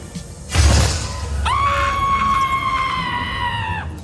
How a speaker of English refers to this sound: So that scream gets me every time because, again, I thought someone was murdered.